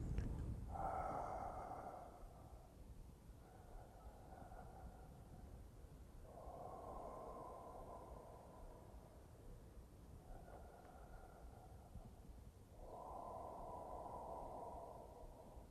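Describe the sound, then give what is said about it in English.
Soft, slow breathing of a person sitting in seated meditation (shikantaza), with several gentle inhales and exhales following one another in an unhurried rhythm. The sound is quiet and steady, and there is no talking. “If I'm sitting shikantaza, now I am just sitting. with that very subtle breathing.”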